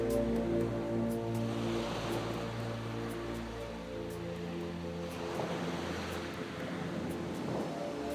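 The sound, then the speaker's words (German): Ocean waves wash steadily onto a beach, with a continuous low rumble and broad hissing surges swelling around the middle and near the end. There is no talking. “Ich höre das stetige und wohltuende Geräusch der Wellen, die in ihrem wunderbar gleichmäßigen Rhythmus an den Strand spülen.”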